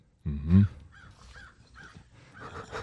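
crow cawing

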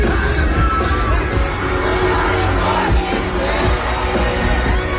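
crowd cheering

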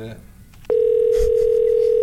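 telephone tone

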